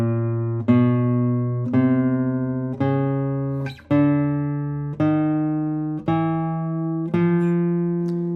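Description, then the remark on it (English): Seven plucked Spanish guitar notes on a single string, played one after another about a second apart at different positions along the string, each ringing with rich overtones and slowly fading, the pitch shifting slightly between notes. No talking. “Even if you move on one string to the different positions, you can hear that there is no difference between the tones.”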